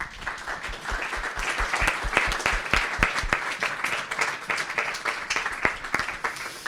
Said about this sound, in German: Ganz herzlichen Dank und einen kleinen Applaus.